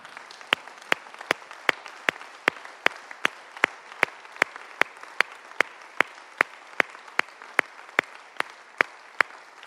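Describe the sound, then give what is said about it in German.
An audience stands and applauds together to thank God, a dense wash of clapping with a steady, sharp beat about two or three times per second running throughout, fairly loud and with no voices. “Und ich möchte mal, dass wir zusammen aufstehen und dass wir Gott mit einem Applaus dafür danken, von ganzem Herzen.”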